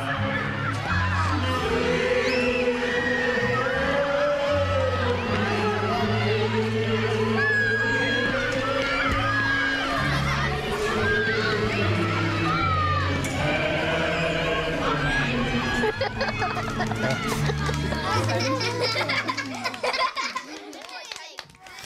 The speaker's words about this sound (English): Oh, isn't it lovely to hear those laughing young voices, especially at this time of year? Plenty of it too. And they were the voices of young and old celebrating the festive season in Kilfinan in County Limerick,